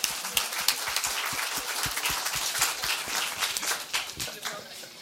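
A crowd applauds steadily, with many dense, overlapping hand claps forming a continuous bright patter throughout, moderately loud and without any voices.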